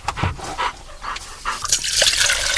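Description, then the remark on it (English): A dog, Tobias, laps water in quick wet bursts during an afternoon water break after more than half an hour of searching for Argentine ant nests, interspersed with rapid breathy panting; there is no talking, and a trickle of splashing liquid runs beneath toward the end. “This afternoon, after more than a half hour of searching, the team calls it quits and Tobias gets a well-deserved water break.”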